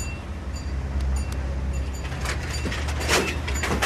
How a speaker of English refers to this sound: I like the reverse bell. Yeah, nice bell. That's really ace. It's lovely, isn't it?